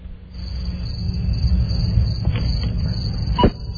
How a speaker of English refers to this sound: Hey, Crickets worked real well that time. Right on. Welcome back, Crickets.